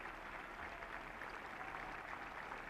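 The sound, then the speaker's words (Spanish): Sustained applause from those attending a tribute to COVID victims, applauding King Felipe VI's speech: a dense, steady clatter of many hands clapping at an even loudness throughout, with no voices standing out. “Aplauden los asistentes la intervención del rey Felipe VI,”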